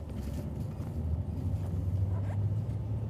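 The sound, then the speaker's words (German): A steady low engine rumble and road drone from inside a bus travelling through the flat Argentine Pampa, continuous and fairly loud, with faint rattles on top and no one talking. “Unterwegs mit dem Bus durch die argentinische Pampa.”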